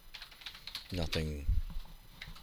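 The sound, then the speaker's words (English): Quick, irregular clicks of typing on a computer keyboard, moderately quiet, with a short voiced sound rising over the keystrokes partway through. “You might have while I was typing something else.”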